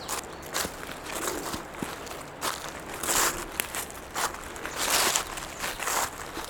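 Footsteps crunch through dry leaves in an uneven rhythm, each step a dull, crackling rustle like crumpled paper, with a few louder crunches standing out over a steady low rustling. No one speaks.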